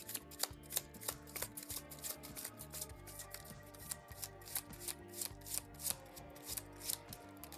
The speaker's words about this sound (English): Let's shuffle the villain deck so we're ready to go here, and then we'll get underway.